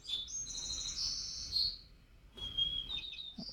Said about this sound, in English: That was a white-crowned sparrow.